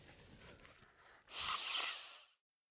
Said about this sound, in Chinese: 他在擤鼻涕。他在擤鼻涕。